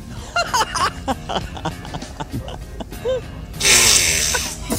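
A woman in a library lets out a loud, hissing fart near the end that lasts about a second, following a stretch of short clicks, squeaks and faint vocal noises.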